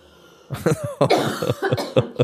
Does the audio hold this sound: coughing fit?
yes